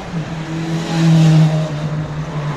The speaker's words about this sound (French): Là, ça fait plaisir ça, d'entendre ça. Une bonne moto comme ça. Ça fait plaisir ça. Hein, au moins, là, il se fait plaisir le monsieur.